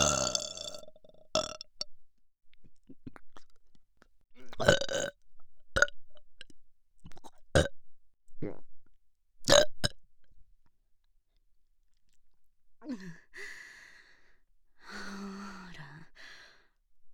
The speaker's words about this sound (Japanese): 汚いゲップ出しちゃうのよ、私。こうやって汚い姿を見せちゃうと思うと興奮してきちゃうの。